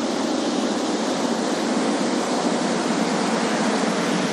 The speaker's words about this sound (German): Wir wissen immerhin, hier auf der Seite ist das Wasser. Und das gerade, das tönt so. Das könnte vielleicht sogar eine kleine Anlage sein. Eine Kläranlage, das tönt nach Wasser.